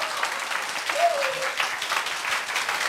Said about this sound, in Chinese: 要不要掌声鼓励一下？你看我这图画的多好。